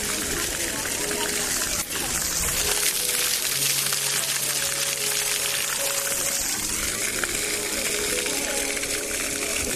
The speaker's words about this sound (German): Ich glaube, das ist gar nicht so einfach zu erraten. Es hat mit Wasser zu tun und das ist hier das Wasserspiel an der Obertrave. Ja, an diesem Wasserspiel kühlen sich Kinder ab und Hunde, die vorbeikommen, kühlen sich hier auch ab.